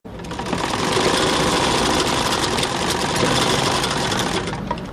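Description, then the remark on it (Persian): A sewing machine runs steadily in a small tailor's shop where a tailor and five apprentices sew men's clothes, its rapid mechanical clatter forming a dense, continuous buzz that stays loud and even for the whole stretch, with no voices. “در یک دکان کوچک خیاطی همراه با 5 تن شاگردش سرگرم کار است و لباس های مردانه می دوزد.”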